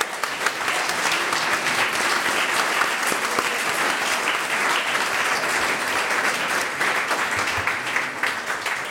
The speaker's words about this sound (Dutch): Mag ik een warm applaus voor dit super kwartet.